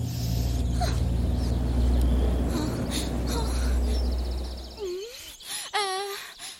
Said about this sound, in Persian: بچه‌ها، این صدا رو میشنوی؟ کدوم صدا؟ چیزی نیست، احتمالا فقط یه پرنده عجیب بود.